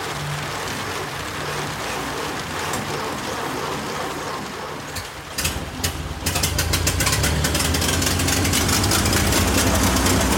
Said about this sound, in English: The engine has finally started.